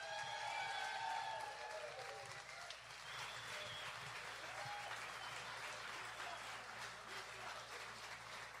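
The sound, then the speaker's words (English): A crowd applauds the introduction of a jazz performer, clapping steadily for several seconds, a dense, bright wash of applause with a few whoops and shouts rising over it early on, then settling into even clapping that stays loud throughout. “Let's hear a nice round of applause for ….”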